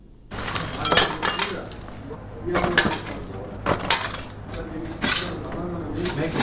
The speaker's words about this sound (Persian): پارچه های شیشه را جمع می کنند و می خواهند ویرانه های راکت را که صبح اول قوس به این خانه در حصه دوم خیرخانه به بار آورده ترمیم کنند.